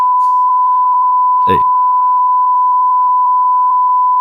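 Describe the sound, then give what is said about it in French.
A loud, steady high-pitched censorship bleep on a live broadcast runs unbroken for about four seconds, with a brief snatch of voice breaking through midway. “Ouais, bah, merci l'Arcom de la censure en direct, c'est vrai que ça va plus vite comme ça.”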